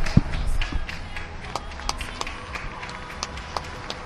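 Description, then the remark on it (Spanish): Scattered neighborhood applause from balconies in eastern Madrid: sparse, uneven clapping from many people, with occasional sharper claps standing out over a steady background hum and faint voices. “Así suena ahora mismo Madrid Este.”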